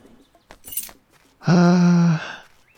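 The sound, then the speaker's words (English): A quick, bright metallic jingle of coins clinking from a treasure chest dug up with a shovel at a dig spot, holding just some coins, followed by a loud, steady tonal chime held for under a second before fading. “Ooh, treasure chest.”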